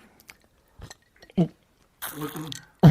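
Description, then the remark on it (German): Ice cubes spat out by a dispenser drop and clink in a few sharp, separate bursts, with a loud hard clatter at the end. A voice speaks briefly between the clinks. “Oh, er spuckt Eiswürfel. Eiswürfel, ja.”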